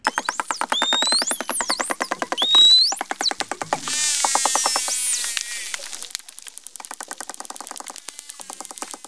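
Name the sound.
dolphin signature whistle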